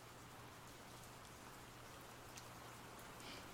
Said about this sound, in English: there are too many rain droplets for you to focus on one for too long. It's nice for when you have a lot going on in your head. You can just pay attention to the rain.